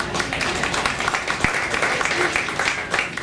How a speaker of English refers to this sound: You can applaud for …. ….